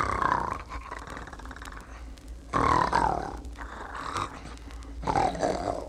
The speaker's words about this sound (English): Then the wolf went back to bed and was soon snoring loudly.